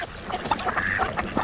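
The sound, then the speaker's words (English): Dabbling and diving ducks calling, with several overlapping nasal quacks and grunting calls in a steady, busy chorus, fairly loud throughout, with no one talking. “When you stop by a lake or saltwater beach this fall, keep an eye out for dabblers and divers.”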